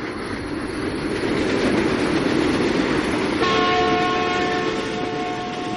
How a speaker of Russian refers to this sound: И в другую сторону, сверкая огнями, с громом пронесся еще один скорый поезд.